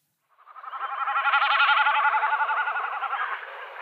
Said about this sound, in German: Beachtet, das macht er nicht mit seiner Stimme. Er fliegt hoch, spreizt seine äußeren Schwanzfedern ab, macht seinen diagonalen Sturzflug und lässt dabei die Schwanzfedern zittern. Und das macht dieses Geräusch.